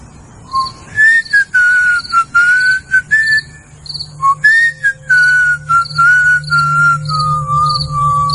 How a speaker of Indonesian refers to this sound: Aku mencoba menghibur diri dengan bersiul.